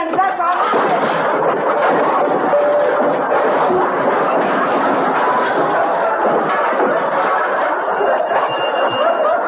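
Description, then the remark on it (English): A long, loud avalanche of junk crashing out of McGee's closet and burying Andy, a dense jumble of clattering, banging and rattling that pours on steadily for nearly ten seconds without a pause. “Oh, my gosh, he's buried under that pile of junk.”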